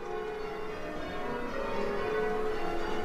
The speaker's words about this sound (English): It's for you, Phil. Neil arranged a quarter peal in honour of your 80th birthday.